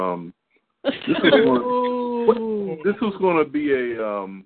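A dog whimpers and then lets out a drawn-out, wavering howl, followed by a few shorter whining yelps, with no talking over it.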